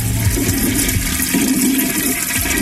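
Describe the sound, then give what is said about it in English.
A toilet in a bathroom flushes loudly, a steady rushing gush of water with a low gurgling swirl that holds for a few seconds without fading. “Get flushed.”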